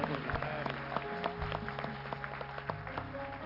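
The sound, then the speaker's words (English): A crowd claps steadily for a few seconds, a dense wash of many hands with sharper individual claps standing out, while sustained musical tones hum underneath. “another hand of applause.”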